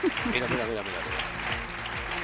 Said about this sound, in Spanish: Mira. La gente aplaude.